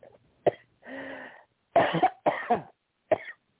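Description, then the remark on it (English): A run of harsh, sputtering coughs in uneven bursts, with a strained, wheezy intake of breath between them, from someone who swallowed the wrong way. “I swallowed the wrong way.”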